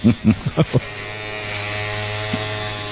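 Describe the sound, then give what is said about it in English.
A steady electric shaver buzz runs throughout with a low motorized hum, preceded by a few short bursts of voice at the start. “Seems to be going rather easily with the electric. Now, is that one of those wet-dry deals?”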